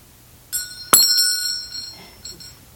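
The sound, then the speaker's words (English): A small metal bell is struck sharply, a softer tap followed by a louder ring, its bright, shimmering tone lingering and slowly fading, with no talking. “Is there anything inherently beautiful in this bell?”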